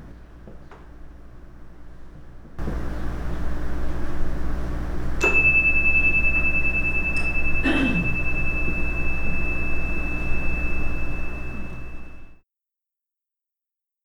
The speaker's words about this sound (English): Try not to think of things like, when is she going to ring the chime?